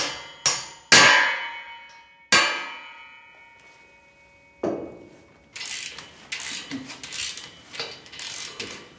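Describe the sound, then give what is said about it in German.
Several sharp metallic clangs ring out and decay, followed by a dull knock, then a harsh, steady burst of drilling a hole for a wall plug, with a rough, pulsing grind that continues to the end. “Erst wird das Loch gebohrt, dann gesäubert und schließlich kommt der Dübel rein.”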